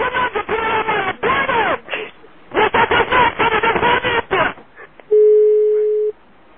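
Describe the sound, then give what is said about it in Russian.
A man talks briefly, then one loud, steady telephone ringing tone sounds on the line for about a second as he calls the telephone exchange, with no answer following. “Алло, телефон АТС? Там никто не берет.”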